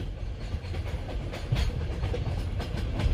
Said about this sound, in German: Hier ist deine Minute im Zug.